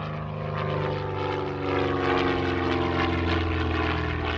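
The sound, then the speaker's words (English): Barry Seal's propeller cargo plane, able to carry 24,000 pounds of cargo, roars as it lands at Los Brasiles Air Base in Managua, Nicaragua, on June 26, 1984, its engines droning steadily with a throbbing, layered hum that swells slightly midway. “Seal lands his plane at Los Brasiles Air Base in Managua, Nicaragua.”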